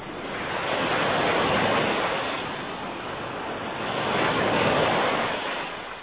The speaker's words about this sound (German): Wind, Regen und Brandung.